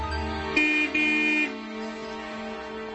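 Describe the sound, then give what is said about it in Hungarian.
A car horn honks twice in quick succession, a short blast followed by a slightly longer one, loud over a steady low engine hum. “Azt hiszeni, hogy nyomhatod a dudát, de csak megfájdult tőle a feje. Hiszen csak kétszer dudáltam.”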